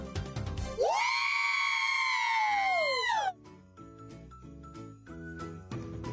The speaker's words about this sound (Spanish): ¿Ustedes saben por qué oyeron ese grito?